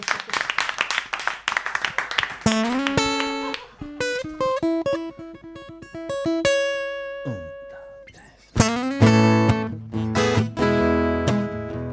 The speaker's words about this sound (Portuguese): Por iso lle damos este fortísimo aplauso.